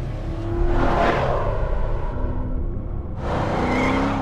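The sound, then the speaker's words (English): A car speeds along, weaving through traffic, its engine revving and droning loudly and continuously, a rushing whoosh of another vehicle swelling past near the end, with no voices. “speeds along, weaving through traffic.”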